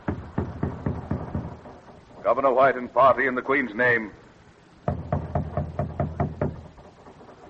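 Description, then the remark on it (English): Rapid, heavy knocking on a wooden stockade gate comes in two bursts, with a man calling out loudly in between the rounds of pounding. “Knock.”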